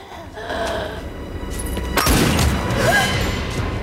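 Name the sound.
gunshot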